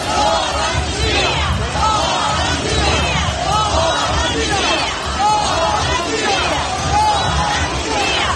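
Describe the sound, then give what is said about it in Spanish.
A huge crowd of thousands chants and shouts "no amnistía" together in the Plaza de Cibeles in Madrid, Spain, in cold, rain and wind, many voices rising and falling in rhythmic waves over a dense, steady roar of babble that never lets up. “Gritos de no amnistía con miles de personas a pesar del frío, la lluvia y el viento en la plaza de Cibeles de Madrid.”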